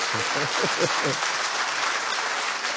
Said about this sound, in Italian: Dai, facciamolo bene questo applauso.